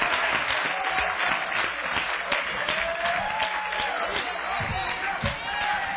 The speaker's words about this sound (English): Somebody clap your hands and give God glory.